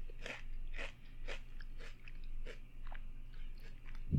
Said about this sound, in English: Ruffles have this crunch, satisfaction, because of the texture.